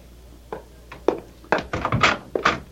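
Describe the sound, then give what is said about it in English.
A series of dull wooden thunks and clunks, building to a cluster of heavier knocks as a door is pulled open after midnight, with no voices. “I said, somebody's at the door, and it's after midnight.”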